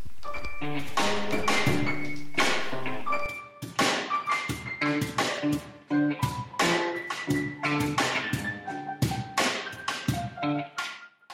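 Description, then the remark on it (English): Lively piano music with repeated chord strikes and a bright, bouncing rhythm, notes ringing out in clusters at a steady moderate tempo, fairly loud with no voices over it. “Those sweet, sweet piano tunes you're listening to right now”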